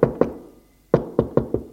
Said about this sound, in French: Frappe à sa porte.